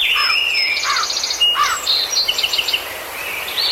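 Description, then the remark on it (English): Several birds fluttering over a yard on a spring day sing and chirp continuously in bright, high-pitched phrases, with rapid trills and repeated whistled notes overlapping at moderate loudness against a faint outdoor background hiss. “Birds fluttered over the yard while singing a song.”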